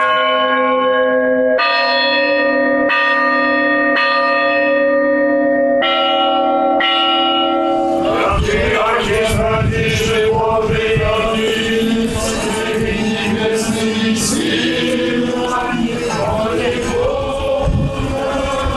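Newly consecrated church bells of the Archangel Gabriel church, donated by parishioners' families, ring, starting with a few slow, resonant single strikes, then bursting into loud, rapid, overlapping chiming of many bells together. No voices.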